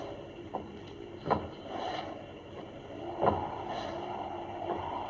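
A walking cane taps in an uneven, limping rhythm as a man with a weak spine approaches: a few sharp knocks, two louder than the rest, spaced irregularly over a steady hiss of rain. No one speaks.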